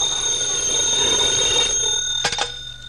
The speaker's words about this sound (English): Phone's ringing.